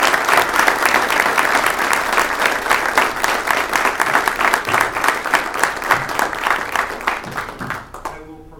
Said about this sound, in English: We have a round of applause for everyone, please.